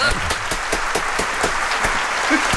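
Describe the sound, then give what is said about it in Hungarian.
An audience applauds steadily, many overlapping claps blending into a dense, even wash of sound that stays loud throughout, with a few sharper individual claps standing out. “Úri közönség tapsol.”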